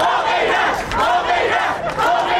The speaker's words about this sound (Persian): در روم، پایتخت ایتالیا، تظاهر کنندگان ایرانی به زبان ایتالیایی شعار می دادند تا پیام آزادی خواهی هموطنانشان را به گوش سایر شهروندان این کشور برسانند.